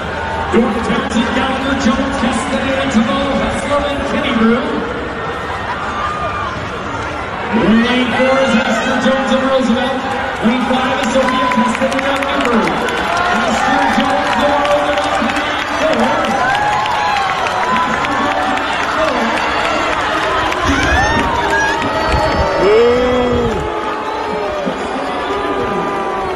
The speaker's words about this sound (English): They were booing. There were people booing in the stands.